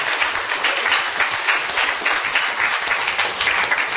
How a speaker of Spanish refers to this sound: Yo quisiera en esta mañana que tú le des un aplauso a ese Dios maravilloso. A Dios, a Dios.